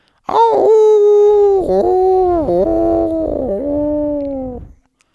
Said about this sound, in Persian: شبا که باد میومد زوزه گرگا و صدای همه آدم غریبه ها انگار توی اون درخت به گوش میرسید.